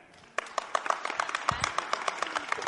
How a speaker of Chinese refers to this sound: 好，台上的掌声很热烈。